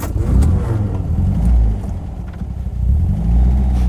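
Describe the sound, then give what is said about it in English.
An old camper van's engine drones loudly, its low rumble surging and easing in waves as it revs through several accelerations, with no voices present. “I was driving a quite old car.”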